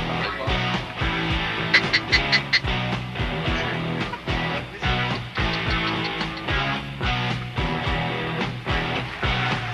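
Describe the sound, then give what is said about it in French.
A mallard duck call device is blown, sputtering out a loud, continuous run of raspy mallard quacks in quick, uneven bursts for several seconds. “Arrêtez de jouer avec ça, c'est une boîte de canard.”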